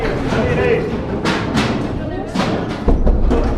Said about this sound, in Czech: Na chodbě školy zní fingovaná střelba. Učitelé dostávají od školitelů pokyny, aby se před fiktivním útočníkem schovali ve třídách a zabarikádovali se tam vším, co je po ruce.